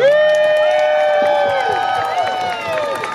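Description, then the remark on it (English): A crowd at a Christmas tree lighting cheers and applauds to congratulate the 2020 Christmas Tree Lighter, in a loud, continuous wash of overlapping voices and scattered claps. It holds steady through the whole few seconds, with no one speaking over it. “Please put your hands together and join me in congratulating the 2020 Christmas Tree Lighter”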